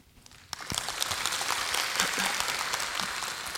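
An audience breaks into applause after a brief quiet moment, welcoming a lecturer before a talk on ASP.NET 5. Steady, dense clapping from many hands fills the room for a few seconds at moderate loudness.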